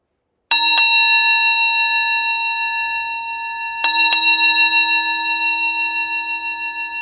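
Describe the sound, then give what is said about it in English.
A small hand bell rings twice, each time with a quick double strike, its bright metallic tone lingering and slowly fading between rings. No voices are heard. “In its left hand, it clutched a little bell.”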